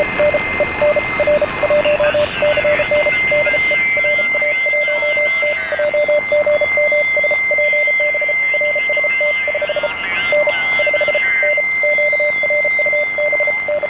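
Morse code tapped out by hand on a telegraph key during an amateur radio contact: a steady stream of mid-pitched beeps in short and long pulses, heard over radio static with a faint constant high whine behind it.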